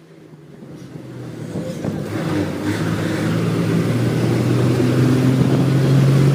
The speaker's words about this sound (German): Es ist der 29. Jänner 2023. Ich sitze in einem Bus unterwegs nach Graz,